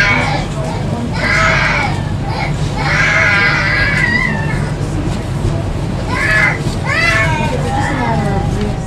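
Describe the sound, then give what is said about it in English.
A baby cries in a string of high, wavering wails, each rising and falling in pitch, with short gaps between bursts over a steady low background hum. “Oops, how did that get in there? I love babies.”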